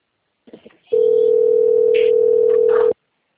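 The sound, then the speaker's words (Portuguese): A telephone rings with one loud, steady electronic tone held at a single mid pitch for about two seconds, after a few brief soft rustles. No one speaks. “Querida, deixa eu atender esse telefone.”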